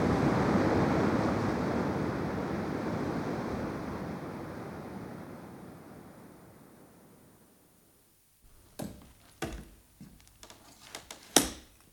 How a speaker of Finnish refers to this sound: Kuulkaahan vain. Niin haukkuu koski kuin kahle koira. Hyvillään on.